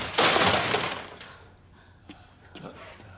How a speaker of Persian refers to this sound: من صدای موزیک از ضبط صوت دوتا سرباز رو کشونده سمت خودش. یکی از سربازا با سرانگشتاش ضبط صوت رو لمس میکنه، با شمشیر میشکنده.